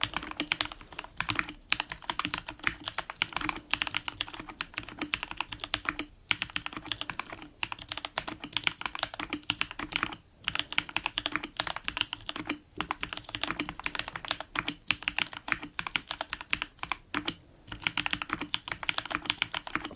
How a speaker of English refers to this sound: So let's do some slow typing with this. Okay. Oh, it sounds so nice.